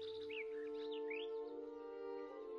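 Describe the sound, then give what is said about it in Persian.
Partridge calls on mountain slopes and rolling hill country: a series of quick rising chirps and short warbling notes, moderately loud, set over a steady humming drone with no talking. “در دامنه کوه‌ها و فراز و نشیب تپه ماهورها با پرندگان کوچکی مانند کبک، تیهو و با قرقره هم روبرو می شویم.”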